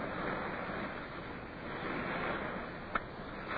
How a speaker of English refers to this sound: The land breeze caught us, and then we heard the swell of the surf. And then we were in the small boats heading in towards the beach at Scotchman's Bay.